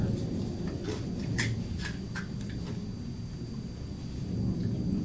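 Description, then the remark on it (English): A loud aeroplane flying overhead, a steady deep roaring rumble that fills the whole stretch, swelling slightly toward the end, with no one talking. “Just a loud aeroplane.”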